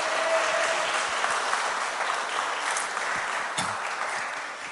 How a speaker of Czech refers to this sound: Já počkám, protože máme tady jednoho maturanta a můžeme ho přivítat potleskem.